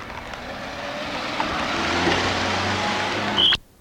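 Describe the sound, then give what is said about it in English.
A pushcart full of paper and junk rolls steadily closer over pavement, its broad rumbling rattle swelling gently before cutting off abruptly, with busy street noise around it and no talking. “And pushing a cart coming toward me full of paper, full of junk.”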